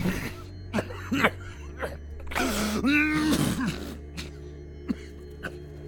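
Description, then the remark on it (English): A series of sharp coughs and throat-clearing bursts, with a longer strained, groaning cough in the middle before a few quieter hacks trail off. “I coughed.”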